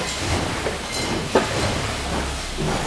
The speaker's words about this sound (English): These are the newest, latest and greatest stamping presses you can buy.